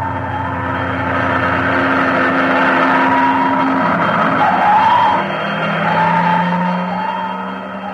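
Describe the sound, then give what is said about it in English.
Fire engines roar past, their heavy engines rumbling steadily while a wailing siren tone rises and falls over the noise, heading to a burning building in the next block. No one speaks. “Fire engines.”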